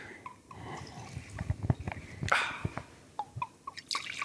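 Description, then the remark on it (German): Wine glugs and splashes into a small glass in a bubbly, uneven stream, with small drips and clinks breaking up the pour over a few seconds. The wine is a light-coloured one named Mabohème from the Camargue in Provence. “Ah, da müssen wir auf den Schreck hier nochmal ein kleines Glas Wein trinken.”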